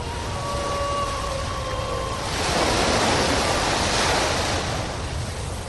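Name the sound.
ocean waves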